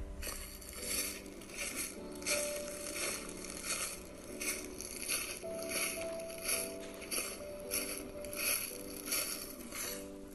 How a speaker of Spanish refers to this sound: El color café cruje bajo sus pies cuando las hojas están secas.